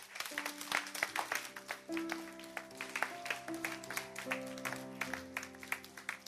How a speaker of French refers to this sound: On va les applaudir tous ensemble.